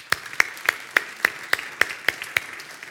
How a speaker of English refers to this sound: Let's applaud this wonderful day.